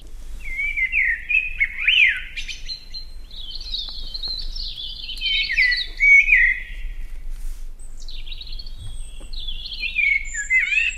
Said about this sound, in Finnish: ja aina aamuisin hoitajat tuli avaamaan ikkunan ja tuolloin kuulin tuota hyvin kaunista, tummaa, kaunista mustarastaan laulua.